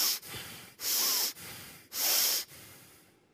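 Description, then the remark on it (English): Heavy, forceful breathing through the nostrils of someone enraged: two loud, hissing exhales stand out amid softer airy breaths. No talking. “It speaks of like that heavy breathing when of somebody who's enraged.”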